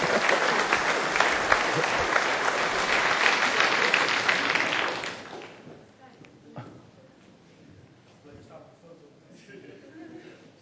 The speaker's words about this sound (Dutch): Ja, geef deze moedige soldaat nog even een applaus.